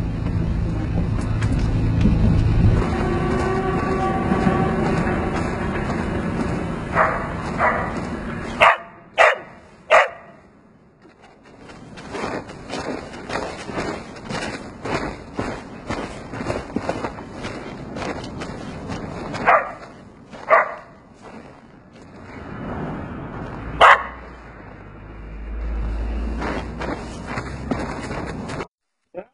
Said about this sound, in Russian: Собака, которая заманивает туристов под гоп-стоп.